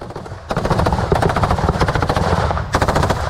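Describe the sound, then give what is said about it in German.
Soldiers moving in small groups over gravel roads beside armored vehicles fire their machine guns during fighting in the Kursk region: loud, rapid fire rattles out in sustained bursts of sharp, evenly spaced cracks, starting after a brief low rumble and continuing almost without pause to the end. “Soldaten bewegen sich in kleinen Gruppen über Schotterwege im Windschatten gepanzerter Fahrzeuge leicht geduckt vorwärts und feuern mit ihren Maschinengewehren.”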